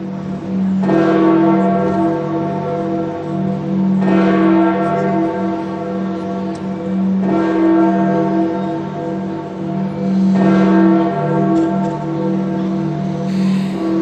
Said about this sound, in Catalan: Les campanes de Sant Pere del Vaticà, les campanes d'un indret que no té campanar. Devia de tenir, però al final no en va tenir.